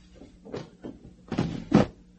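Drawers of a wooden chest slide open: a few soft scraping rubs, then two louder, rougher wooden scrapes and knocks in quick succession, with no one speaking.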